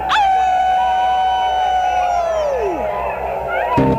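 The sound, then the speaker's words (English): A single long, loud howl rises sharply, holds a steady wavering pitch for nearly three seconds, then slides downward and fades, followed by a brief rough burst of noise. “Are you ready to howl?”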